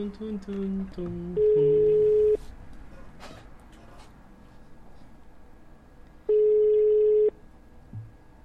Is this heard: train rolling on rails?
no